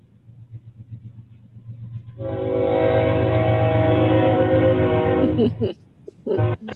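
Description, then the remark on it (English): A train horn blares loudly and steadily for several seconds over a low rumble of a passing train, heard during a board meeting, then cuts off as the rumble continues briefly. “Train go by, y'all.”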